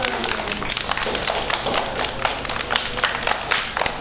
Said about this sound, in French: On s'applaudit. Bravo.